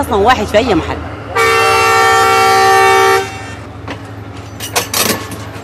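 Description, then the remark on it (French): A train horn blares loudly for about two seconds, a sustained harmonic blast from a train running the 500 km between Port Sudan and Atbara, Sudan, amid a busy station ambience with people talking and background rumble before and after. “Le train mettra près de 12 heures à parcourir les 500 km qui séparent Port-Soudan d'Atbara.”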